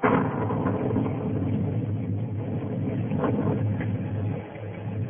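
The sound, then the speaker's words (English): A deep, continuous rumble of rolling thunder in the Catskill mountains fills the whole stretch, low and heavy, holding steady before easing slightly near the end. No voices are heard. “No thunder in the world, Johanna, like the thunder of the Catskills.”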